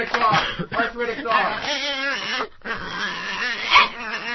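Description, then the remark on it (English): A person imitates an arthritic dog whimpering, making strained, creaky, wavering whines that run almost continuously, with one brief pause partway through. “Arthritic dog.”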